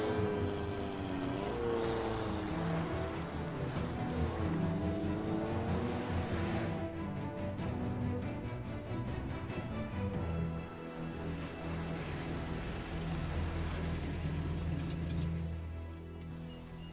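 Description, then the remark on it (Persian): A sports car engine drones steadily and loudly throughout, its pitch rising and falling early on as it revs, then settling into a constant hum as the car keeps driving. “بریم سراغ اون ماشین اسپورت خوشگلت.”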